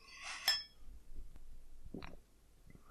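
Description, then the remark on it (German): Two glasses of Schwarzbier (black beer) knock together in a toast with a bright, ringing clink near the start, followed by quieter shuffling and a soft clunk as a glass is set down. “Gut, dann sage ich mal Prost. Prösterchen. Prost.”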